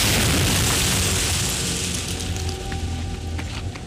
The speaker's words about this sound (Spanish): Un cráter se abre cerca de Kenai.